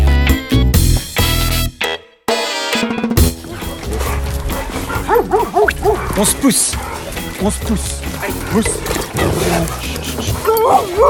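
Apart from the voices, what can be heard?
dogs barking and yipping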